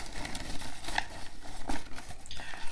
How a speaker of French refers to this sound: Et nous allons passer au tirage au sort pour la prochaine fois. Ah, le tirage. Donc je tire d'abord mon bout de papier et après on passera au tien.